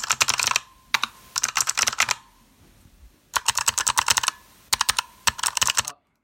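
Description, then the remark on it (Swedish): Rapid bursts of crisp, clicky typing on a mechanical keyboard with tactile, clicky purple switches, some keys fitted with O-rings to dampen the click and some without, fairly loud, arriving in several rhythmic flurries separated by short pauses, with no voices. “Vi kanske ska lägga in det där eller det lilla ljudet av klickandet.”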